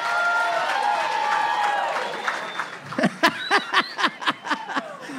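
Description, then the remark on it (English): An audience breaks into scattered clapping to vote for going without hand washing for a year, over a murmur of crowd noise and light laughter, the claps growing sharper and more distinct as individual hand claps punctuate the last couple of seconds. “Go ahead, clap.”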